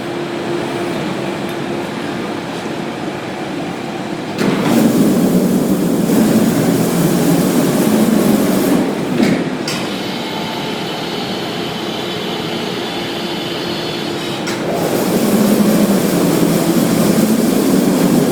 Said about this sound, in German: Ein Sarg steht wie auf einer Art Hebebühne, die jetzt langsam hochgefahren wird und wir dürfen tatsächlich an der Übergabe eines Sarges teilnehmen. Gleich wird sich der Ofen öffnen und ich muss zugeben, mein Herz klopft sehr.